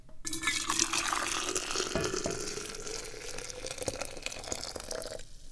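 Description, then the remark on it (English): Tea is poured one-handed into a cup for several seconds, a steady, continuous splashing stream whose pitch slowly rises as the cup fills. No one speaks. “It is now time for the one-handed pour.”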